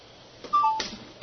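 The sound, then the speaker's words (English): An outgoing conference call's ringing tone, placed to Matthew Bischoff: a brief, steady electronic tone that steps slightly lower partway through, framed by a few soft clicks and low line hiss. No one speaks. “I'm ringing Matthew Bischoff.”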